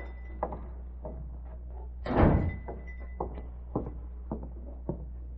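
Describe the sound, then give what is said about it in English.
A front door opens with one brief, rattling burst, with a scatter of light clicks and soft thumps before and after over a steady low hum. No one speaks. “Uh-oh, somebody coming in the front door.”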